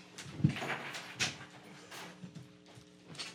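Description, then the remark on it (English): A studio door is pulled shut, giving a couple of sharp knocks and a rattling latch over a steady low background hum, with no one speaking. “1 second, let me close the door.”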